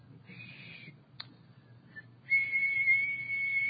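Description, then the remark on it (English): A person whistles a steady, high, sustained tone, breaking off briefly before resuming louder and holding it, imitating the 2,600 hertz signal the telephone company sent down the line when it was free, over a faint low background hum. “And when a line was free, the telephone company would send a signal of 2,600 hertz. Any whistles?”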